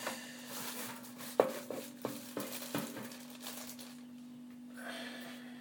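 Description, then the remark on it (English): A plastic microwave cover is picked up and set down, making a handful of light knocks and clatters over a steady low hum, with no one talking. “we find the microwave cover, which I think is on top of here somewhere.”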